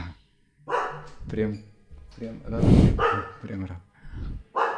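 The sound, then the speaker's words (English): A dog, one of the dogs living in Vrindavan, barks repeatedly, several loud sharp barks in an uneven sequence, with a person's voice talking intermittently in between. “stop the dog.”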